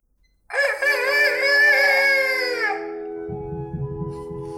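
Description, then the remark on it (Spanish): A rooster crows once at sunrise in Veracruz, a loud, raspy, drawn-out call lasting a couple of seconds that slides down at the end, followed by a low rumbling noise. “Ya están cantando los gallos y el sol de Veracruz ya está saliendo.”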